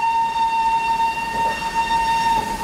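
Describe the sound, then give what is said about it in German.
A steam locomotive in the opening of the film Schindler's List sounds a long, steady whistle that holds one bright pitch throughout, over a continuous low rumble of the train, with no voices. “Der Rauch einer Dampflok füllt das Bild.”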